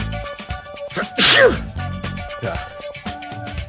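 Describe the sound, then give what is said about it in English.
A loud, sharp sneeze bursts out, followed by softer breathy catches and snorts, as in a sneezing fit that comes in waves, during a recording take, with faint voices murmuring underneath. “Feed your sneezing fit.”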